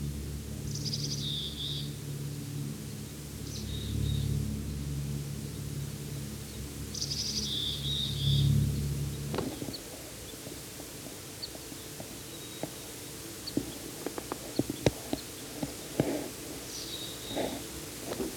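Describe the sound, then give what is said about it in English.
A bird giving a type 3 call gives short bursts of high, buzzy call notes, four or five clusters spaced a few seconds apart, over a low rumble that stops midway, leaving scattered faint ticks and clicks. “Can't quite see this bird. It's giving a type 3 call.”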